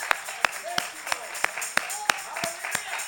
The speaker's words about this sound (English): Can we, right where you're sitting, let's give a praise, a hand clap of praise to the Lord. Oh, hallelujah.